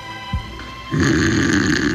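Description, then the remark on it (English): After a brief quiet pause, a man lets out one long, loud, rattling snore during a car journey on the motorway from Lisbon, a rough rasping drone that holds steady to the end. “I didn't know I was snoring on the way back.”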